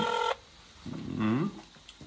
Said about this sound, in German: Das ist bei dir in Spanien ist ein bisschen anderer Klingelton. Aber es ist jetzt nicht viel, hörst du das sogar.